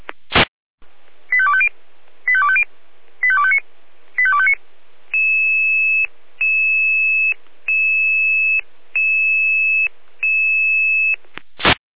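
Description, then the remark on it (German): Control centre radio dispatch alerting tones: four quick warbling tone bursts, then five long, steady, high-pitched beeps in an even rhythm, bracketed by sharp radio clicks, loud and clear with no talking. “Leitstelle jeder mit Alarmierung.”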